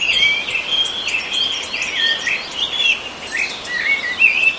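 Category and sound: bird, songbirds singing in spring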